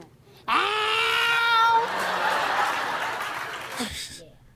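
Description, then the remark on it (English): A voice imitates a high-pitched cat meow, one drawn-out, loud call that trails off into a long breathy, hissing exhale. “This is meow, but it's higher? Meow.”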